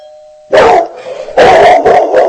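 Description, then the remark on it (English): A doorbell chime rings out briefly, then a dog barks loudly several times in quick, uneven bursts. “Another noise. That time a doorbell.”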